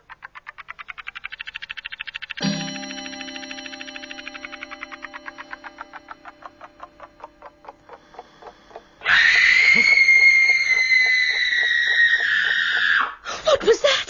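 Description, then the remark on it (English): A loud, piercing scream holds for about four seconds, following a rapid rattling pulse and a ringing, slowly fading bell-like tone. No one speaks. “scream. What did you think it was? Oh, isn't it horrible?”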